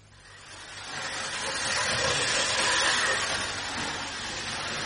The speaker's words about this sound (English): These trains really are beautiful, General. Did you build them yourself?